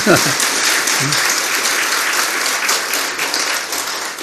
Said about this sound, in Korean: 네, 박수 한번 치세요.